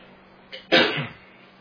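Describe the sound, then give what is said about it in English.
A single sneeze: a short sharp intake followed by a loud, breathy explosive burst that tails off quickly, with no talking around it. “Well, I can't keep that sneeze away.”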